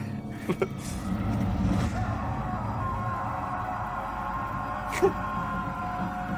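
vehicle, bus engine approaching

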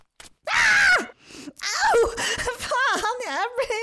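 human body sound, woman screaming in pain

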